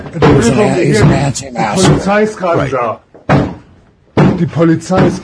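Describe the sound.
Police knocking on a door, a few sharp raps set among voices talking loudly, with brief pauses between the bursts of speech.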